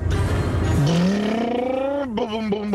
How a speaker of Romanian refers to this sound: Da, ok, bicicleta cu motor.